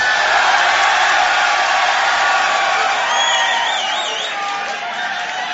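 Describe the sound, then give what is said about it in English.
A live crowd at the 2019 Grand Beatbox Battle roars with sustained cheering, loud and dense throughout, making noise for a beatboxer, with individual high whoops and whistles rising above the din before it eases off slightly near the end. “Make some noise for ….”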